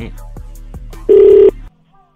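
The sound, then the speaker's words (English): A telephone rings on an outgoing call placed early on a Wednesday morning: one short, loud burst of steady ringback tone heard through the line, preceded by low hum and faint rhythmic clicks, then the line falls silent. “All right, it's ringing.”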